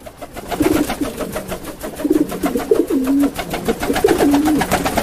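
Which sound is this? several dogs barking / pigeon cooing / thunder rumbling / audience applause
pigeon cooing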